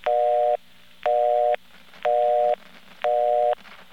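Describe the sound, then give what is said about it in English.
A mechanical telephone busy signal beeps four times in a steady rhythm, each half-second tone starting and ending with a sharp click, with low hum between beeps. “And you can also hear a click at the beginning and at the end.”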